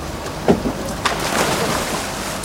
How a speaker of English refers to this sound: The long red diving boat and pontoon deck sits on a calm sea. March 2011. Several divers jump off into the sea.